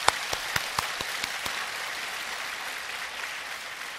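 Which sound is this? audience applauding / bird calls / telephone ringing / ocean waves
audience applauding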